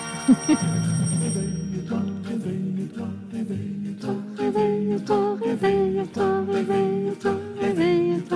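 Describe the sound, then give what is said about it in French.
A bright, clattering bell rings loudly for about a second and a half at the start of a 1961 French song, like an old alarm clock, then a lively band tune takes over. “C'est cadeau si vous cherchez une sonnerie de réveil.”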